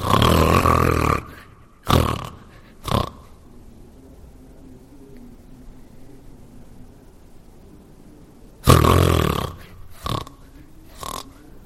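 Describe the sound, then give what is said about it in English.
A male medical professional imitates a sleep apnea patient who stops breathing and then wakes: a loud, rasping snore and short gasps, then a long near-silent pause before another burst of harsh snoring and choking breaths. “And then there's very loud breathing as the patient wakes up, breathes again, and then stops breathing again.”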